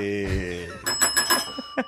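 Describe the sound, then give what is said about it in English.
A small bell rings in a quick burst of four or five bright, metallic dings after a short sustained tone, with no talking. “Only I ring the bell.”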